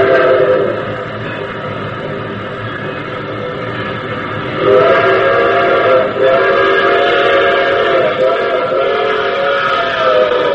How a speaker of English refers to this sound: The very first sound, if you remember, is the train approaching.